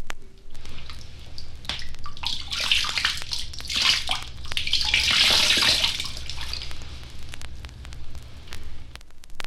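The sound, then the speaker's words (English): Water poured from a horn, its small end closed by hand, from a height of about 3 feet splashes steadily into a lake or river, surging and easing in rate over several seconds, fairly loud, with no talking; it imitates a female moose urinating. “All these sounds, well performed and in proper sequence, give a perfect imitation of a cow moose moving in the water.”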